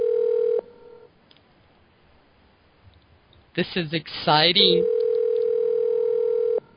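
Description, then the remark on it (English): A steady electronic telephone ringing tone of an outgoing call sounds briefly, goes quiet, then returns for a couple of seconds after a person speaks over the line, clear and fairly loud. “Just to kind of give you guys a heads up, this young lady has no idea we are calling her tonight. So let's all keep our fingers crossed that she answers the phone.”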